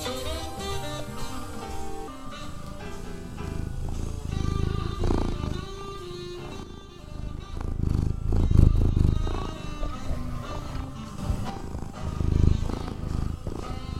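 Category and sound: animal, cat purring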